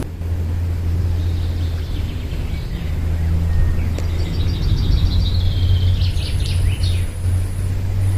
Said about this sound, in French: Et on a aussi eu le cri du pinson, qui est toujours bien reconnaissable, que vous entendez en arrière-plan, qui fait tu-tu-tu-tu-tu-tu, pinson. Il dit son nom à la fin.